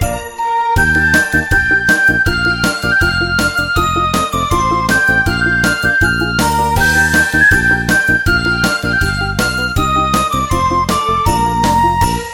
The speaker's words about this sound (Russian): Колокольчики играют, с Новым годом поздравляют, и звучит со всех сторон новогодний перезвон.